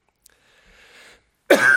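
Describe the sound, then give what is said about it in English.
After a near-silent stretch with a faint, soft rustle, one loud cough bursts out abruptly and rasps on through the final moments. “I'm going to call for the special number to see if I can get rid of this cough.”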